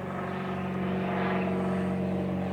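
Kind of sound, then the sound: vehicle, small plane flying overhead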